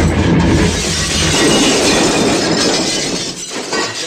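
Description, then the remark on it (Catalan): A loud car crash during a car journey to Hollywood: a sustained roar of crunching, grinding metal with breaking glass, lasting about four seconds before easing slightly at the end, with no voices. “Llàstima que durant el viatge en cotxe cap a Hollywood tenen un accident dels grossos.”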